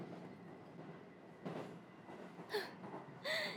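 A train rumbles along steadily with a low, continuous roar, broken by two sharp metallic wheel squeals near the end. No one speaks.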